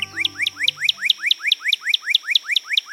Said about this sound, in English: Even without taking a poll, is there any doubt about the identity of America's best-known red bird? Surely it's the cardinal, or as you'll find in a bird book, the northern cardinal.